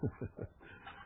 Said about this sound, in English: And it might just be somebody driving by on the road. But you can hear him barking right now.